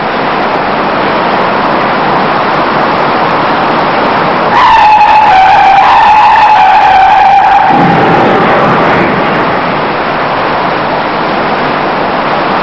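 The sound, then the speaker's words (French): Over a steady roar of road noise, a long, loud tire screech wails for about three seconds with a wavering pitch as cars brake hard and skid on coming upon both traffic lanes blocked, then fades back into the traffic rumble. “Ceux qui respectent la limitation de vitesse s'arrêtent sans problème. Pas les autres.”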